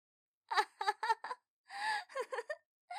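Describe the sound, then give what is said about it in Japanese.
A strained voice lets out a run of short, choppy wailing cries, then a longer drawn-out wail and the start of another. It sounds harsh and ragged rather than words. “なにその汚い悲鳴。”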